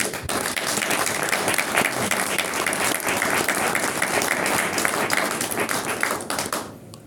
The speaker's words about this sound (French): il faut les féliciter pour ça, et j'aimerais que peut-être qu'on les applaudisse,